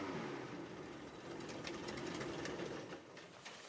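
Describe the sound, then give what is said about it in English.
A loud airboat engine drones steadily for the whole stretch, a dense mechanical roar with a fast rattling pulse running through it and no voices. It is a refuge manager's airboat in the marsh of the Sabine National Wildlife Refuge bordering Texas, surveying debris from Holly Beach after Hurricane Rita. “Refuge manager Terry Delane stops his airboat to survey the village detritus, seen and unseen.”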